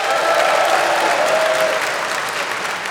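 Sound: audience clapping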